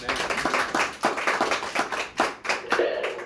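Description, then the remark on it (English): A group of people clap together in a steady, brisk burst of overlapping hand claps that keeps going for a few seconds, moderately loud, with no talking over it. “Let's give a clap for that.”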